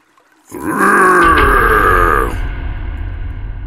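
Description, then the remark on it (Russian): The battle roar of Aarkh, a monster character in a fantasy story, bursts in loud and guttural beside a river among spruces, a rough, harmonic bellow lasting about two seconds before breaking off into a low, steady rumble. No one speaks. “От моего боевого рева съели посыпалась почерневшая хвоя, вода в реке мгновенно замерла, а обе девчушки едва не присели, увидев нависшего над ними Аарха с огромным и страшным мечом.”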